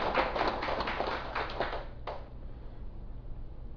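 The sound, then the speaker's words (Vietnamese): An audience at a Buddhist dharma talk claps together in a dense, crackling burst of applause for about two seconds, then it quickly dies away, leaving a low steady hum. “Xin quý vị vỗ cho tràng vỗ tay.”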